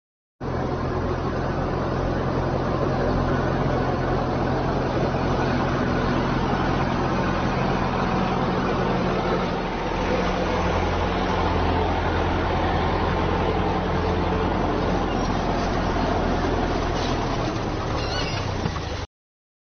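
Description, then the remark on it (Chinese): A heavy tractor engine rumbles steadily on a farm for the whole stretch, a deep droning hum with a gritty mechanical roar and no voices, as the tractor passes over a bird guarding its eggs. “保护它的这个蛋啊，然后呢拖拉机到了它上面啊，它都不飞。”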